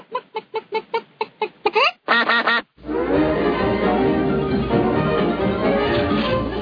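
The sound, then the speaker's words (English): A duck quacking sound effect: a quick run of about a dozen sharp, evenly spaced quacks, then a dense, loud clamor of many birds fills the rest, without any talking. “And that wraps the Quack Report.”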